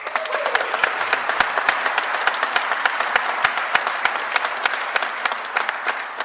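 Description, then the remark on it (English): A crowd applauds steadily, many hands clapping in a dense, even patter that holds at a strong level for several seconds without any speech over it, in response to the announced repeal of the Obama administration's 2015 Waters of the U.S. rule. “If you didn't spontaneously applause at that one, I was going to reinstate it.”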